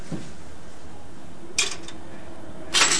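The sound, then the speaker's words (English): A child gives a brief clacking press of a cash register button, then about a second later a brighter, louder metallic rattle as the drawer slides open, over a quiet steady background. “can you learn how to use the cash register?”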